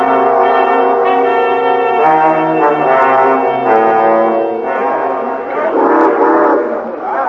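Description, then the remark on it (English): A steam train's whistle sounds loud in long, sustained chord-like blasts that shift pitch several times over about seven seconds, with a rumbling undertone beneath, as the train is about to pull out at 3 o'clock, bound for St. Louis and Chicago. “Train about ready to pull out, it looks like.”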